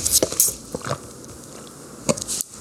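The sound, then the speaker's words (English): Someone takes a giant sip of water, with wet gulping and mouth clicks in short bursts, a pause, then a couple more swallows. No one speaks. “After your giant sip of water. Could you hear it?”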